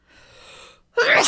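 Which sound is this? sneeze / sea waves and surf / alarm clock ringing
sneeze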